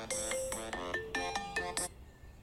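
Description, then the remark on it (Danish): A phone ringtone plays a bright, melodic electronic tune in quick bursts of notes, fairly loud, cutting off abruptly with no voices around it. “Nå, nu ringer”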